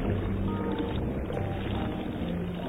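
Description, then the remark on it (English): A Coast Guard motorboat's engine drones steadily over open sea as it approaches, a loud rumble with a low humming tone and a wash of spray that holds level throughout. “A Coast Guard boat approaches.”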